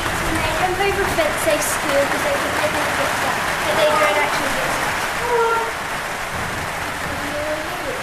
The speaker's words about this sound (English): Another rainy day.